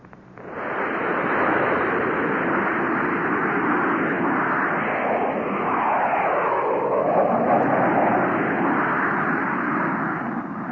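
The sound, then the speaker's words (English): Six jet fighters take off from Hink Field with a loud, steady roar that swells in quickly and holds, the engine pitch sweeping and shifting midway as the planes pass by. No one speaks. “Six jet fighters were taking off from Hink Field when Chuck Connor showed his pass and was passed into operations.”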